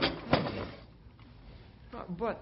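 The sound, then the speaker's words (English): A desk drawer holding papers slides open with a quick scraping rush and a soft knock; after a pause, a brief voice murmurs. “The papers are still here in my desk drawer where I put them after I talked to you.”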